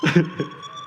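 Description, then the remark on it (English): An ankle monitor alarm sounds a steady, high-pitched electronic tone that holds without a break, after a short burst of voice at the start. “So it does actually give an alarm.”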